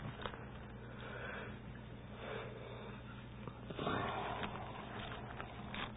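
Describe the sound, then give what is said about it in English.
A few breathy sniffs come at irregular intervals over a low, steady hum, with one stronger, longer intake of air near the end. “He can go through this thing and take out the sniffs and the snorts here.”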